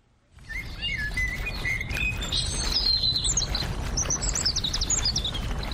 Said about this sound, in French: Le soleil se couche et les oiseaux chantent lorsque j'arrive au jardin botanique de Limbe.